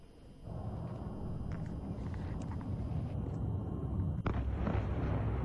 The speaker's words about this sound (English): A series of loud explosions have been heard in Kiev as the Russian military operation against Ukraine enters its second day.